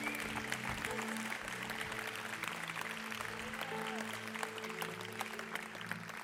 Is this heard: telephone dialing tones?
no